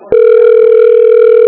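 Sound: telephone ringing tone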